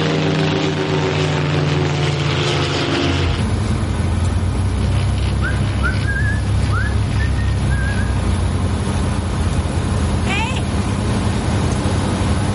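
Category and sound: vehicle, light aircraft engine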